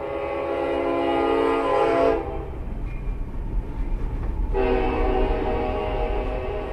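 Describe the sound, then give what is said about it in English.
A Union Pacific train rumbles steadily past on the main line in Hayes, Kansas, next to the main location of the Midland Marketing grain cooperative. Its horn blares loudly twice, one long blast, a short pause, then another sustained blast over the heavy clatter of the cars. “The main location sits right next to the Union Pacific Railroad's main line in Hayes.”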